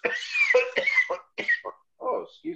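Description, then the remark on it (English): A person coughs several times in quick, harsh bursts, with a couple of shorter, weaker coughs trailing off after brief pauses. “See, body is coughing.”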